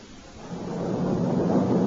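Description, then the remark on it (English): A low, broad rumble of thunder swells steadily louder over a couple of seconds, heavy and continuous, with no voices over it. “There will be a storm,”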